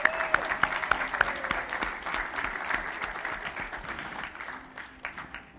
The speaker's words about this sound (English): Well, this is our kickoff to our 23rd annual Jubilee, and I think we deserve a round of applause for that.